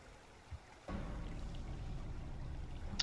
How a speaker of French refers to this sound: Maintenant, donc, bang et bang encore. Deux nouvelles vagues viennent de frapper durement la coque du petit cog.